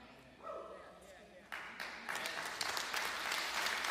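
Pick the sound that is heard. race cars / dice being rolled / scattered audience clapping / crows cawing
scattered audience clapping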